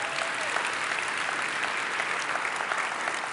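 Steady audience applause, a dense wash of many hands clapping at an even level for the whole stretch, with no voices standing out above it.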